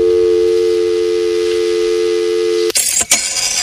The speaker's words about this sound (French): Voilà, alors autre son, celui du téléphone et du fax, et là aussi, c'est une autre époque.